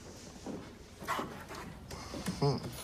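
A dog named Pesteh whimpers and yelps playfully in a few short, high bursts, with rustling and light movement around it and no talking.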